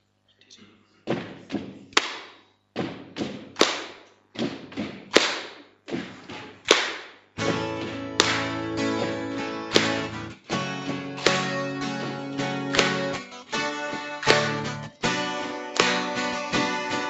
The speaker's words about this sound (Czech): tak půjdeme dvakrát nohou a jednou tleskneme. Začneme pomalu a kdo chcete, tak se můžete přidat.